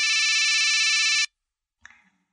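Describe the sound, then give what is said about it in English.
A loud, steady electronic telephone ring lasts just over a second and stops abruptly, followed after a short pause by a brief, quieter clunk. No one speaks. “Do you hear that sound? The phone is ringing.”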